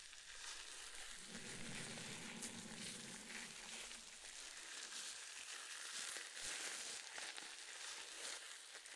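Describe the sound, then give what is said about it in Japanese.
Shampoo lather being worked evenly through the whole head of hair and over the scalp makes a steady, dense crackle of wet foamy squishing and fizzing, continuous throughout, with a faint low hum in the first few seconds. “シャンプーを全体になじませますね。”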